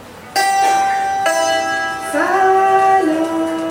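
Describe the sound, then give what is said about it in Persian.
A santur plays a short phrase of a few bright, ringing notes, the last one held and sliding in pitch, fairly loud with no one talking over it. “مثلا یه ساز اینجاست که اسمش سنتوره.”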